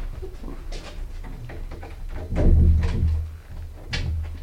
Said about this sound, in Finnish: No mä panen oven lukkoon.